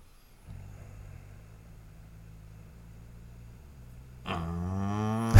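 A car engine idles outside with a low, steady hum, then roars into a loud rev near the end, its pitch climbing sharply. No one speaks.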